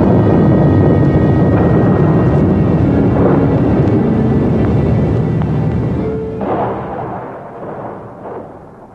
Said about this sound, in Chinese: 突然间雷声大作，地动山摇，人们都扑倒在地上，万分恐惧。